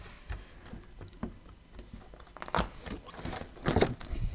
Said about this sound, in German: Dann kannst du einmal umblättern.